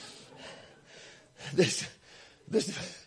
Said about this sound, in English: Hallelujah. Let me catch my breath a second.